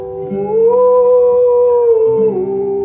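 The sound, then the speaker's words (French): A voice imitates a humpback whale call as a signal to call humpback whales: one long, loud, sustained moaning tone that rises slightly and holds, then dips near the end, heard alone. “On va appeler nos amis les baleines à bosse. Mais oui ! Baleines à bosse ! Oh là là, je connais le signal en plus.”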